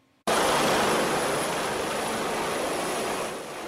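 A new Contra Costa County fire crews' firefighting helicopter, called Confire One, in flight produces a loud, steady engine-and-rotor roar that cuts in abruptly and holds constant throughout, easing slightly at the end. No voices.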